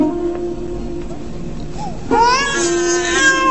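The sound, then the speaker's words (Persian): An infant cries alone in a long, wavering wail that swells louder halfway through, its pitch rising and straining with harmonic overtones. “باز چه شده سیتنه؟ چرا کسی گریه میکنه؟”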